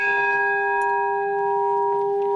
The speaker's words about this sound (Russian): И вот уже мелодичный звук колокольного оркестра под опытным управлением 15-летнего звонаря разносится по всему селу.